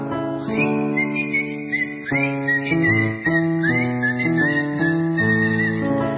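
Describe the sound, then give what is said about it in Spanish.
Someone standing on a street corner whistles a lilting tango melody with sliding, swooping notes over a steady instrumental accompaniment, clear and fairly loud throughout. “Me paro en aquella esquina, cueste tanguite me pongo a chiflar.”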